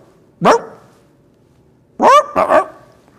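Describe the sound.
A human voice does a loud turkey impression: one short rising yelp, a pause of over a second, then a quick run of three warbling, gobble-like calls.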